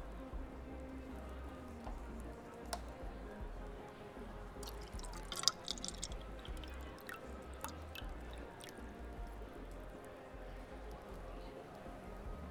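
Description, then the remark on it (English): A drink is poured into a glass, the liquid trickling and splashing, with a few sharp drips and clinks midway, over a low steady background hum and faint murmuring. “Here, I'll pour it for you.”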